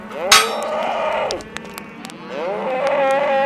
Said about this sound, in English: Your next steak or burger probably started out life on a ranch similar to this one in southeast Oregon's Harney County. And before these cattle can be let out to graze on summer range, the young animals have to be branded, castrated, and vaccinated.